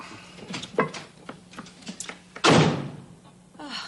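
A door slams shut with one loud, booming bang as someone leaves for the grocery store, preceded by a few softer knocks and shuffling thuds from the person moving.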